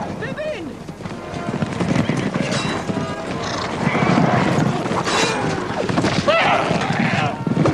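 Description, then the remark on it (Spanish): Riders of Rohan cavalry charging Saruman's army of orcs and Uruk-hai: a dense, loud rumble of many pounding hooves with horses whinnying above it and shouting voices mixed into the steady din throughout. “Jinetes de Rohan atacan al ejército de Saruman.”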